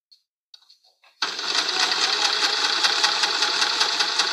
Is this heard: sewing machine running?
yes